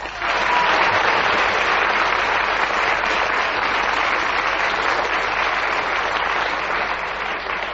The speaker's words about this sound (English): that resounding round of applause from our audience shows that they not only enjoyed what you said, but the fact that you kept going to the whistle went and kept another point.